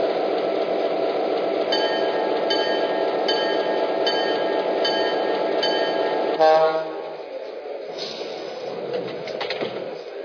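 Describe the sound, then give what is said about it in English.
A passenger train, number 91, the Florida Special, on track one at a station, departing for St. Petersburg, rumbles loudly with tonal squeals and whines over the steady roar; it cuts off abruptly after six seconds, leaving a quieter station ambience with faint bird calls. “Petersburg on track one, train number 91, the Florida Special.”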